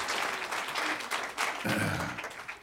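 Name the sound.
applause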